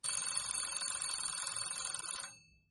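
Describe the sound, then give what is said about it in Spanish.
An alarm clock rings early in the morning in a hotel room with a rapid, continuous metallic bell clatter, loud and steady for over two seconds before cutting off and fading briefly. No voices are heard. “Por la mañana, muy pronto, suena el despertador.”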